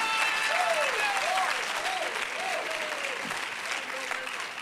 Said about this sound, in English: All right. Somebody say praise the Lord. So clap your hands unto God and shout a little bit. Praise God.